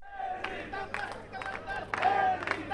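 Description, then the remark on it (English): A small, happy crowd of Bhutto's supporters at her party office in Islamabad, Pakistan, awaiting the announcement of her return date, cheers and shouts excitedly. Overlapping voices rise in bursts with some clapping mixed in, the noise swelling and falling over a few seconds. “It's a small but happy crowd.”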